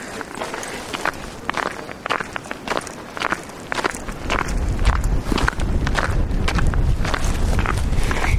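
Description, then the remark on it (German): Steady footsteps of a walker wearing ice spikes crunch over ground completely iced over by freezing rain, each step a sharp, gritty scrape in a regular walking rhythm, while a low rumble of ongoing rain and wind fills the background. “Es ist Eiszeit, es hat gefroren, wir haben Eisregen, es regnet die ganze Zeit seit heute Nacht und alles ist komplett vereist. Und ich habe Spikes an.”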